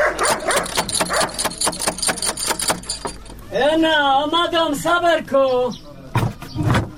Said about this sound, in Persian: اوهو، این چی سگ خطرناک داره که نخوریم ما. الا دروازه را بسته کن که سگ نخوریم ما.